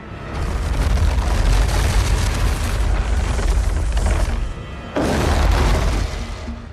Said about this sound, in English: The Lord of the Rings movies were full of great monster sounds. One of my favorites was the fire-breathing demon called the Balrog. Sound designers created his menacing rumble by dragging a cinder block across a wooden floor.